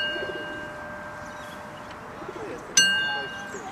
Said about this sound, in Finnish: Leikkijunan kello soi Audreyn tyttärille.